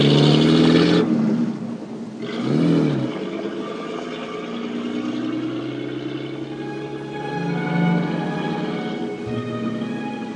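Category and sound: vehicle, car driving away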